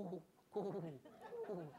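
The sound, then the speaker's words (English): A man's voice imitates a dove's cooing call: three low, hooting phrases in a soft, rhythmic sequence, moderately loud, with brief pauses between. “I don't do doves as well as I do turkeys.”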